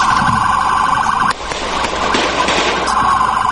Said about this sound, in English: That's the police opening fire and giving chase as Miriam Carey attempted to evade a growing number of cruisers.